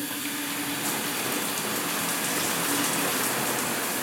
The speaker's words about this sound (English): But what I'm really excited to see is my hotel bathroom. I'm about to turn on the faucet. Here's the shower.